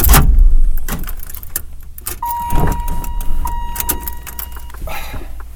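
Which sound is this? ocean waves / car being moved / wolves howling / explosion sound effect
car being moved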